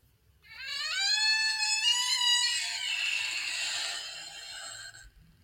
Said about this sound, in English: She opens and the door screeches.